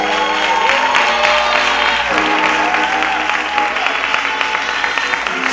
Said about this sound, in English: Give God one more hand clap of praise.